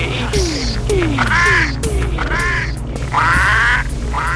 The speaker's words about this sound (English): Fucking geese. They're blocking my way. They're looking. They're looking mean. Mean. I can't be bullied by a fucking pack of geese.